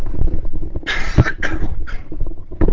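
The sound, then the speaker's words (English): A few harsh, muffled coughs in quick succession from a person with a tickling, raspy throat, with a last short cough after a brief pause; no one speaks. “I'm going to pause a moment, take off the headsets, and cough here.”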